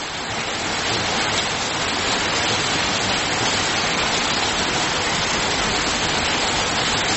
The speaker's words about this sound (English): Serious rain.